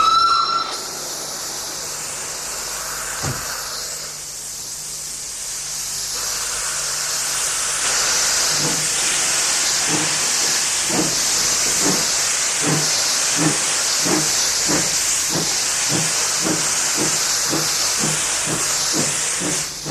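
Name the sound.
steam train hissing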